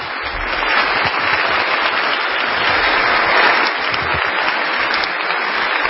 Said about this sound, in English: At the end, before the applause began, the standing ovation he received lasted 3 minutes.